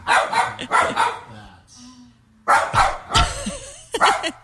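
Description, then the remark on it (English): A dog named Penelope barks loudly at a video of herself in quick clusters of sharp barks, with a brief lull between bursts where a faint whine-like tone is heard. “So Penelope's barking at herself, or she's barking at you.”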